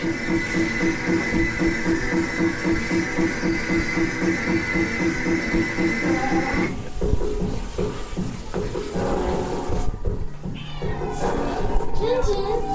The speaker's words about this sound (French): Tu vas entendre des miaou peut-être à un moment. Quoi ? Les miaou d'un chat affamé. Miaou. Je lui ai donné des bonbons en plus, hein, elle exagère.